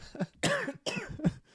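A short run of harsh coughs, two strong bursts with smaller throaty hacks around them, loud, with no talking.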